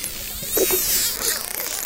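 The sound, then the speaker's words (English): Dolphin clicks and squeaks recorded by a research team: a rapid, zipper-like buzz of clicks with thin, high-pitched squeaks sweeping upward over a steady hiss, lasting about two seconds with no voices. “That's like, there's like a clicking, kind of squeaking sound that they make.”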